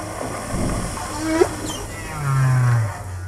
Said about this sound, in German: Wahlgesang.